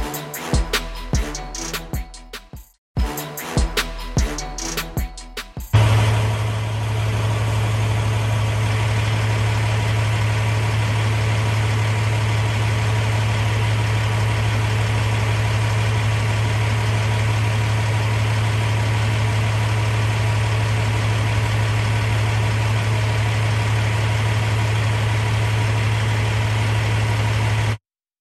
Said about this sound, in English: Nighttime traffic just not moving in the snow. But what is interesting about it is how long it didn't move. What you're seeing there is insane highway gridlock